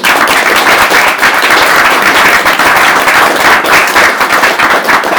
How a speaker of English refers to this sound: Anyway, our traditional thing here is, and nobody here would really want a load of silence, I think we should give Paul a round of applause.